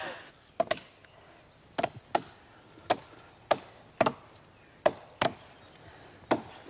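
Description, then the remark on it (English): An axe strikes the trunk of a tree being felled, in the final stages of the cut, about ten times, each blow a sharp, loud woody thwack, falling in an uneven rhythm with some strokes coming in quick pairs and short pauses between. “What he can't tell us is where the tree will fall exactly.”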